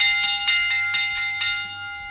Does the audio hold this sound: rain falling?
no